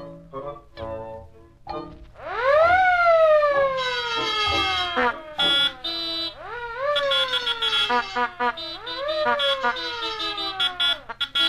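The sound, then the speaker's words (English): An alarm set by Bugs Bunny suddenly goes off, its siren-like wail sweeping up and sliding down in several repeated swoops, mixed with clattering bursts of noise, blaring. “Didn't figure on my setting an alarm, did you?”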